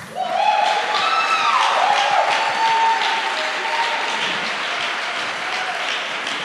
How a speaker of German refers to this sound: Wir wollen gerne die ersten zwei einladen, hochzukommen an die Bühne, zu den ersten Block. Ein Applaus bitte.